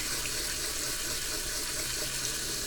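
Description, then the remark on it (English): A steady stream of tap water runs as soapy vessels, including a measuring cup, are rinsed, producing a continuous bright hiss with faint splashing and clinking. No one speaks. “So now I'm just going to rinse out some of these vessels that are now all soapy.”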